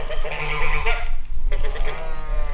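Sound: sheep bleating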